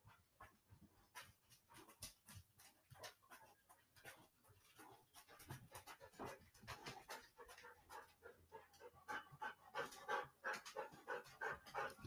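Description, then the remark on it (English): Dogs that have just come in from outside panting steadily in quick, rhythmic breaths, with occasional small whimpers and wet sniffing sounds, continuing for the whole stretch with no talking. “Ignore our dogs. I apologize.”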